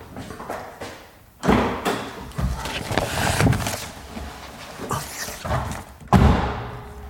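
Footsteps approaching a school: a series of heavy, irregular thuds and knocks with a faint background rustle, the sharpest, loudest thud landing near the end. No voices.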